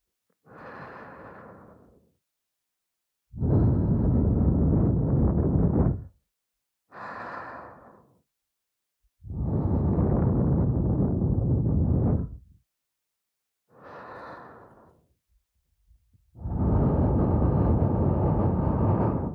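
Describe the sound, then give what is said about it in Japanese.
Warm breath blown right into the ear of a binaural ear microphone, loud: three long, hushed exhales, each preceded by a short, quick inhale, in a slow, steady rhythm with no talking. “例えば、こんな風に、ほかほか吐息をお耳に吹き込んで、リラックスしたまま、勃起していただくのはいかがでしょうか。”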